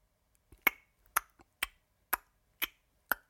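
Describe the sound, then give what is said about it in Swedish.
A small clattering, clock-like ticking: six sharp, crisp clicks spaced evenly about half a second apart, each with a faint softer tap just before it, made by a walking clock. No voices. “Ja, det var ett litet slags klapprande ljud som också lät lite grann som en klocka.”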